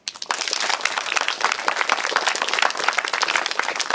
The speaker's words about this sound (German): Freundlicher Applaus für den Fusionsreaktor.